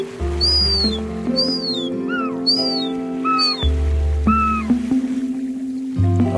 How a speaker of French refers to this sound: Il y a des jeunes goélands argentés. Ah oui, au-dessus de nous.